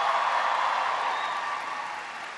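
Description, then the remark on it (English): A crowd at the University of Kansas (KU) applauds steadily for the person who gave the introduction, a dense wash of many hands clapping together at a fairly loud, even level that eases off slightly toward the end, with no voices. “a big round of applause for the great introduction?”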